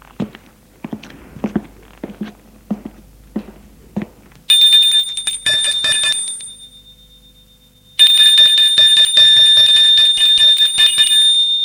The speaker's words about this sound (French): Il a sonné à la porte. La porte s'est ouverte.